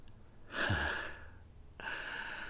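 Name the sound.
gasp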